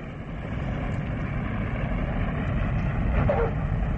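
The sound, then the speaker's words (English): A steady, heavy low roar of an airliner's engines, unbroken as the plane comes in to land at Don Mueang Airport in Bangkok, with a faint whine rising briefly near the end. “Ladies and gentlemen, we're coming in for a landing at Don Mueang Airport in Bangkok.”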